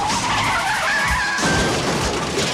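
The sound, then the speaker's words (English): A beer truck racing down a park's hillside drive skids with a loud, rising tire screech over roaring noise, then heavy thumps hit as it slams into a walkway blockade; no one speaks. “Racing down a park's hillside drive, the truck slams into a walkway blockade labeled Buswell Park.”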